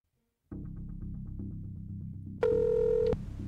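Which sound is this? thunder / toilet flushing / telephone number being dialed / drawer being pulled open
telephone number being dialed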